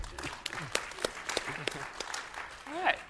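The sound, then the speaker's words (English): Sparse, scattered applause from an audience at a software demonstration: a handful of sharp individual claps spaced irregularly over a few seconds, with murmuring voices and a brief rising vocal sound underneath. “Go ahead and applause if you want to.”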